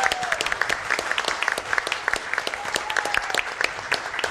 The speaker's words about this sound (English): I think a big round of applause for our host each and every week